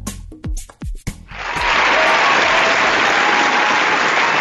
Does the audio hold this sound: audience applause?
yes